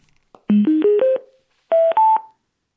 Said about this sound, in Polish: Postaram się sparować ten głośnik z telefonem. Teraz włączam głośnik.